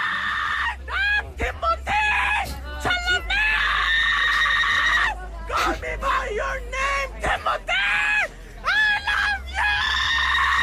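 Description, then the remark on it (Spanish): Timothée Chalamet screams loudly and repeatedly, in strained, high-pitched bursts separated by brief gasps and pauses, with no other sounds around. “Este grito.”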